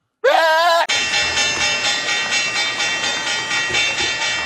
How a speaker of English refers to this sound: That was the opening bell, Josh, and the hog market is open.